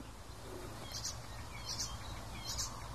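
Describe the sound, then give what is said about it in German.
Songbird song mixing in warbler and blackcap elements after blackbird-like phrases: three short, high, twittering bursts come at an even pace, each under a second, over a steady low rumble and background hiss. No one speaks. “Da sind auf jeden Fall in meinen Ohren auf jeden Fall Elemente der Grasmücke, Mönchgrasmücke mit verbaut gewesen, eben nach diesem Amselähnlichen.”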